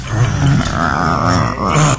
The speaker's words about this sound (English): Hear a growl?